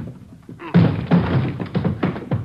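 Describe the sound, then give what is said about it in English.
Police officers strike a door hard to force it open: a quick, irregular run of loud, heavy thuds, each blow booming against the wood before the next lands. “Hit the door.”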